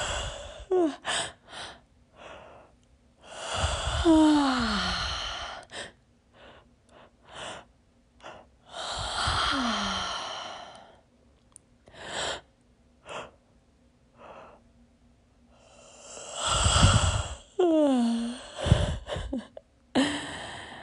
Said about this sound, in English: So go ahead and just, this one is kind of where you fake it till you make it. Just keep going. And even if the real yawn doesn't come, just keep doing it. And maybe it does come.